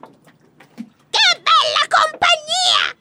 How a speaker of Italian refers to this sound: Corvo si era appena sistemato quando si udirono le grida di Pappagallo che stava arrivando in volo.